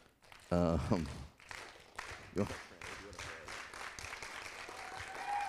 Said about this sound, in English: So she gets a slow clap, too.